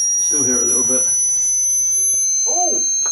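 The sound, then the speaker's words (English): Several thin, steady high-pitched hearing test frequency tones, with some dog whistle sounds, sound together and hold unbroken throughout, piercing and constant, while a person talks briefly beneath them at the start and again near the end. “Those were high-pitched frequencies used to test hearing with some dog whistle sounds thrown in.”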